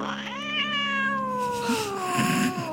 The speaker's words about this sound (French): Une horde de chats s'engouffra dans la pièce.